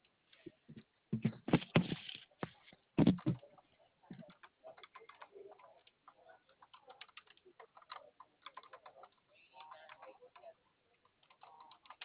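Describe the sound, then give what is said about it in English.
Rapid, irregular clicks of typing on a computer keyboard as details are typed in to look up a price, with a louder burst of keystrokes early on, then lighter, scattered taps continuing throughout without any talking. “typing this in here, okay?”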